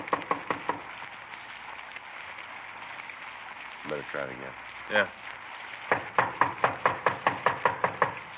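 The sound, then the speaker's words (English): A few sharp knocks on the wooden front door of a small redwood house at 3113 Nordhoff Street in the San Fernando Valley, in the rain, then a brief exchange of voices, followed by a longer, steady run of firm knocking that grows more insistent. “We parked the car and walked up onto the porch. … tried the door.”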